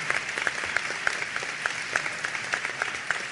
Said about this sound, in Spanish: Un aplauso para la Secretaría de Producción, Innovación y Empleo.